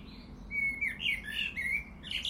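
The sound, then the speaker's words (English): A blackbird sings a fluting, warbling phrase of varied whistled notes from a rooftop aerial, clear over a low steady outdoor rumble, with no talking. “Taking 2 steps to the side, away from below the aerial, just in case Mr. Blackbird decides to relieve himself.”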